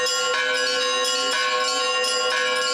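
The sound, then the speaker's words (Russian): Church bells ring out in a festive peal accompanying a religious cross procession, several bells struck in quick succession so their bright, clanging tones overlap into a continuous shimmering chime, loud with no voices. “Во время крестного хода, который сопровождал праздничный призвон колоколов, люди молились за свою отчизну и благополучие семей.”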